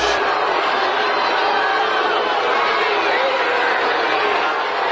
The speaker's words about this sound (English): There's people in the background telling everybody to be quiet.